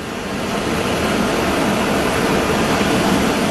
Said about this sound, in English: You can hear kind of the background of, I don't know what it is, not jet engines, generators, auxiliary power units, whatever they might be, but it is a hot day, as you normally would expect in late August in Phoenix, Arizona